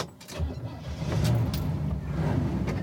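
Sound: car engine driving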